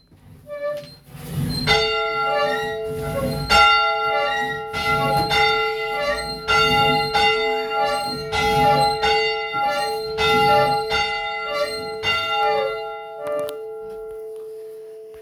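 A church bell, rung to begin a Sunday morning worship service, rings repeatedly in a steady, regular rhythm, its strikes loud and resonant with long overlapping hums, then the tolling stops and the ringing fades out.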